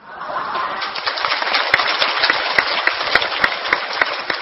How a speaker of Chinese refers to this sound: 这笑话听过的就不要鼓掌了。